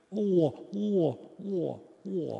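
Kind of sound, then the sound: vocal imitation, voice imitating pigeon cooing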